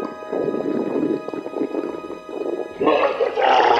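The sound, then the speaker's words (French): A stomach gurgles in a long, irregular run of low bubbling rumbles, then swells louder and higher-pitched near the end into a croaky, wet churning. “Par une insondable coïncidence, les gargouillis de votre estomac évoquent à cet animal des coassements qu'il peut comprendre.”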